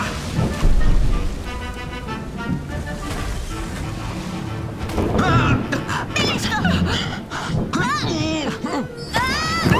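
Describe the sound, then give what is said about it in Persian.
Stormy sea waves crash and roar continuously in a loud, rumbling wash, with distressed voices speaking and crying out over the storm, growing more agitated in the second half. “امواج طوفانه نه ارواح.”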